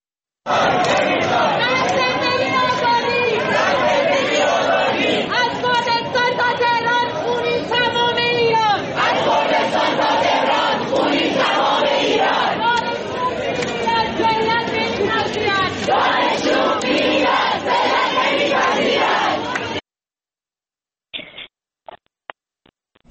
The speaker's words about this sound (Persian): دانشگاه شهید بهشتی دانشجویان به قتل مهسا اعتراض کردند و شعار دادن مرگ بر دیکتاتور، توپ تانک فشفشه، آخوند باید کم بشه و شعارهای دیگر که اگر که امکانش هست صدای اونها رو بشنوید.